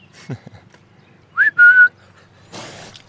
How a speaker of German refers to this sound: ein paar Mal gerufen und gepfiffen hat, kommen 2 große Schweine herbeigelaufen.